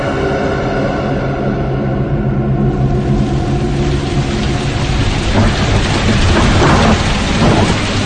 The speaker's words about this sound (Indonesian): Jam pelajaran pun berlalu. Ketika bubaran sekolah, hujan turun cukup deras.